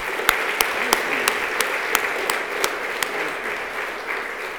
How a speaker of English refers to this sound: Thank you. And another round of applause would not hurt.